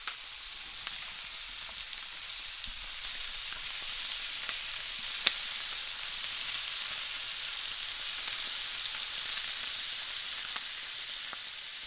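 Chicken skin sizzles steadily in a frying pan as it is seared skin-side down until crisp and golden, rendering out the chicken fat: a constant bright hiss of hot oil broken by a few sharp crackles and pops, with no voices.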